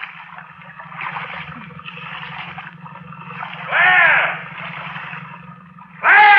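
Rhythmic watery swishes repeat about once a second as a small boat is paddled, each stroke a soft splashing gurgle over a steady low hum, with a couple of louder strokes standing out.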